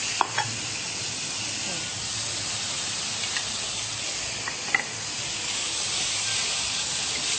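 Food sizzles and steams steadily in a hot pan, a continuous hiss with a few faint clicks and pops scattered through it. No one speaks.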